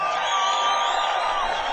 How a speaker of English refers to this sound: Hey, how about a moment of silence for Richie Valley, Buddy Holly, and the Big Bopper? A moment of silence. Give it to them. Now give them a big round of applause so they can hear you upstairs.